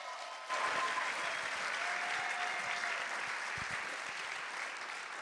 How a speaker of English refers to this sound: Can you give John Anderson a big round of applause as he makes his way up?